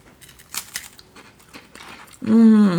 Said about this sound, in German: Ein kleines Stückchen, jetzt sabbel halten, ein kleines Stückchen abbeißen und im Mund behalten.